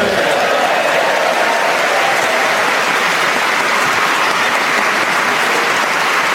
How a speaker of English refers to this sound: Please don't clap too long. We don't want to push our luck.